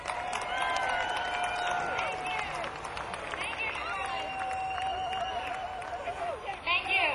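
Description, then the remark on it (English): A crowd applauds Rita Benson LeBlanc steadily for several seconds, a dense wash of clapping mixed with cheers and a few high whistles, holding at a fairly constant loudness throughout. “Rita Benson LeBlanc, a round of applause.”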